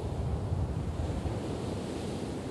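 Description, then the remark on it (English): Steady surf washes and rumbles while gusty wind buffets the microphone at Martins Beach, half an hour south of San Francisco, California, on a windy, gray day; a continuous roar of waves and wind with no voices. “Even on a windy, gray day, Martins Beach, half an hour south of San Francisco, is perfect.”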